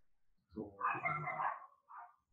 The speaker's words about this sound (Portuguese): O Campeonato Brasileiro sempre tem os meus convidados de honra aqui marcando presença, né, os cachorros, desculpa aí, gente. Sempre eles.